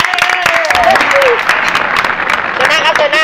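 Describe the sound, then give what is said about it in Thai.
A steady burst of audience applause for a guest on the live programme 'Mathematics Changes the World', dense and loud throughout, with a few whoops and cheering voices rising over the clapping. “สวัสดีครับ แขกรับเชิญ วันนี้ครับเชิญแขกขอเสียงปรบมือให้กับแขกรับเชิญ”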